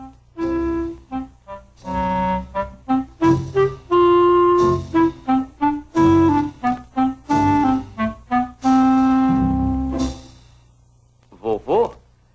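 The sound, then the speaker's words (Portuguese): A clarinet plays a low-register motif, mixing short detached notes with a few longer held tones in a sly, stepping rhythm, fairly loud, with no other instruments. “O motivo tocado pelo clarinete representa Ivan, o gato”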